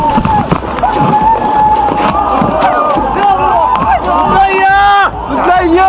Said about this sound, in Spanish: Los gritos de las personas que estaban en ese mercado. La cámara con los suelos. El humo por doquier y gritos por doquier. Desgarradores de dolor.